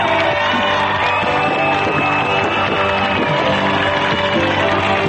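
A concert audience in Podgorica cheers in a loud, unbroken roar, with whoops and shouts rising out of the dense crowd noise for the whole stretch; the concert was sold out and met with ovations.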